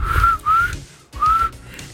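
A person attempts to whistle: three short, thin, wavering whistle tones with breathy air noise, uneven and faltering, with a brief pause before the last attempt. No talking.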